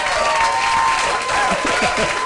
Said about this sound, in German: Super, Applaus.